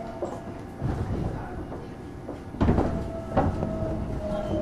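A subway train rumbles steadily, with a thin high whine running through it and a few sharp metallic clunks and thumps as it slows, arriving at Chuan Station, the last station of the line. No one speaks.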